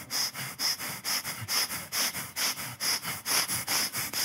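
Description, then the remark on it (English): A person takes rapid, exaggerated breaths in, a steady run of about sixteen short, sniffing inhalations, each a breathy hiss in quick rhythm, with no talking. “And I'm like, oh, I'm getting my breathing in.”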